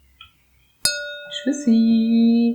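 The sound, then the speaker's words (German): A single bright clink of glasses in a toast rings out and lingers briefly, followed by a steady, humming tone that carries on to the end. “in dem Sinne würden wir einfach noch Prost sagen und dann ist hier Feierabend.”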